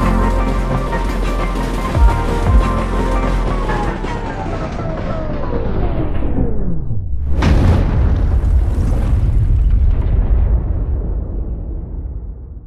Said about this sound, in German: Am 22. September 2006 gibt es im Emsland einen gewaltigen Knall. Er stammt von einem Fahrzeug, zu dessen größten Versprechen zählt, dass es sich nahezu geräuschlos durch die Landschaft bewegt.